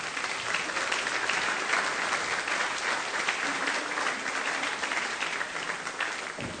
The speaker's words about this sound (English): Should we give these guys a round of applause?